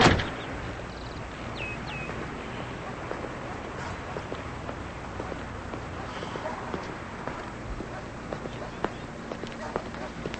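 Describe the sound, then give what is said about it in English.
Footsteps scuff along over steady background noise as a man walks up to a house, followed by the squeak and rattle of the house's screen door opening, with scattered sharp knocks throughout. “He looks around, walks up to Nancy's house, and opens the screen door.”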